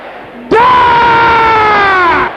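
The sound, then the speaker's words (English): A crowd of voices shouts together in one loud, sustained roar that starts abruptly, holds steady for about two seconds, then cuts off. “Brothers, can you shout it louder than the sisters?”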